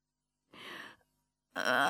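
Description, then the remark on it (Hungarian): A breathy yawn from a single voice: a half-second airy exhale, a brief pause, then a louder, fuller yawning breath that starts abruptly and carries on to the end. “Ásított a négy alvó.”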